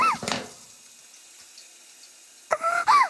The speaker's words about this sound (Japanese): まずはシャワーで頭を濡らしますね。目を閉じてください。どうですか、シャワーは熱くないですか。